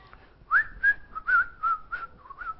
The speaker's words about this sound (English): And knowing David as he journeyed along, probably David would be whistling a song.